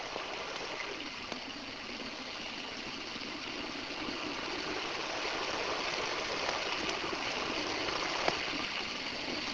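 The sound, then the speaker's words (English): Steady streams of water pour and splash into metal pails in a constant, hissing rush, with a faint sharp tick near the end and no voices. This is a Kelvin water drop experiment: the pails are connected to the opposite streams' inducer rings, which charge spontaneously with no external voltage, generating about 20 kilovolts. “Rather, the rings are connected to the pails of the opposite streams, which causes them to charge spontaneously.”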